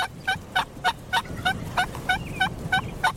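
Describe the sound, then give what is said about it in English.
A wild turkey tom gobbles in the spring mating season in a rapid, rubbery rattle of about ten quick gurgling bursts, evenly spaced, over a low outdoor hum with no voices. “That rubbery, gurgling sound is his way of telling nearby hens that he's eager for company.”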